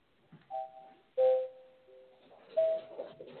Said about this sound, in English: There's our gong. We're just about out of time.